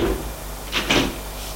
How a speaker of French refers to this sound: Ils montèrent à leur chambre. Alors, ferma la porte